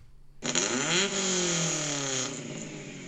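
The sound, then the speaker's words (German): An old car engine starts up abruptly and revs loudly, its pitch rising then settling into a rough, sustained roar, with no one talking. “Es ist ein altes Auto.”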